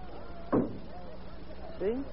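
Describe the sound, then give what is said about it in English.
A single dull, muffled knock thuds through the wall from the dining room, low and brief, with soft voice-like sounds murmuring faintly before and after it. “It sounded like it came through the wall from the dining room.”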